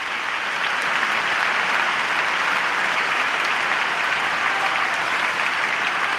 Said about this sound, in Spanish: Una ovación más para Rafa.